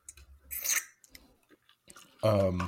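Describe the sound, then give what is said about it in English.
A wet slurping sip from an alcoholic drink, a brief liquid burst with a few small mouth sounds, followed by a short voiced murmur. “I'm going to take another sip.”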